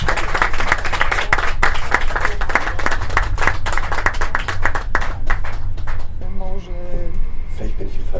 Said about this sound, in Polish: Ein Applaus